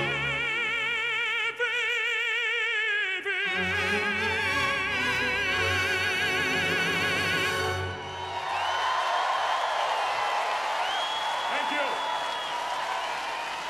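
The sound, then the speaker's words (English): A singer holds vibrato-rich notes over the BBC Concert Orchestra, conducted by Richard Balcombe, then a large concert crowd in Hyde Park bursts into loud, sustained cheering and applause, with a few whistles rising above the roar. “That was the crowd in Hyde Park”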